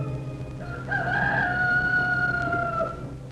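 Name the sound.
rooster crowing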